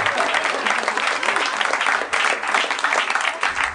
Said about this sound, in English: Seems like a good time to give him a round of applause.